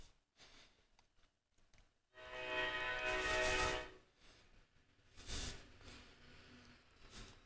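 The horn of a passing train blares for about two seconds, loud and sustained with a steady tone, then fades. Rumbling rail noise and a short hissing burst follow in the background.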